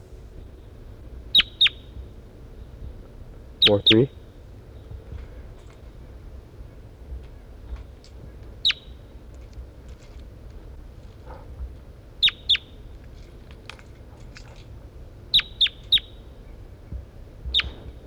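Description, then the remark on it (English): A bird designated 4-3 gives short, sharp, high-pitched chirps, singly or in quick pairs, scattered irregularly over about eighteen seconds against a low steady rumble, with a voice speaking briefly once. “That's bird 4-3.”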